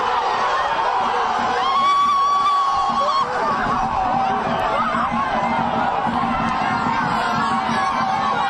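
A large crowd of football fans roars and shouts in celebration after the Futebol Clube de Grécia goalkeeper saves a penalty that wins the match, a dense, loud wall of cheering voices that holds steady for the whole stretch without letting up.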